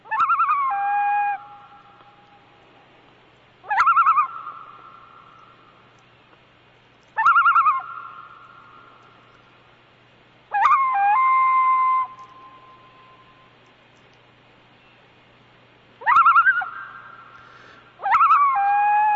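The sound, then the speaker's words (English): A common loon gives six long, mournful wailing calls, each rising and holding a few seconds before fading, spaced by short silences with a faint low hum beneath and no talking; the loon is calling to its mate to come back closer. “What it's doing is actually calling to its mate to come back.”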